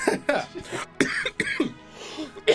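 coughing fit

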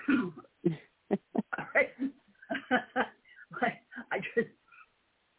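coughing

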